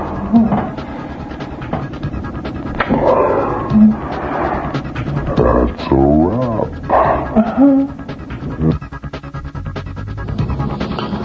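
A dog barks and whimpers repeatedly, with whiny, wavering cries and short yelps mixed in, fairly loud over a steady background rumble.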